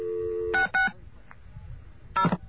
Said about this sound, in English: I don't think that's the same dial tone, so I'm going to dial some numbers.